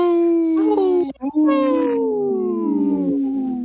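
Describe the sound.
A person howls like a wolf on the Native Roots Radio show, a loud, sustained wail that breaks briefly near the start and then slides slowly downward in pitch for several seconds.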